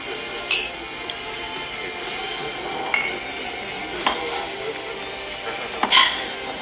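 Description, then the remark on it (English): Glasses of whiskey clink together in a toast: a few scattered, bright ringing taps over a low murmur of background noise, ending with a louder, sustained chime near the end. “Come on, toast. Raise your glass, man.”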